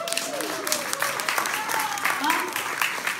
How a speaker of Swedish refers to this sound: Tack för allt som ni har bjudit på i historier och glädje, musik och textilminnen. Tack för till er som har kommit hit och lyssnat idag. Ska vi ge dem en applåd? Ja, publiken!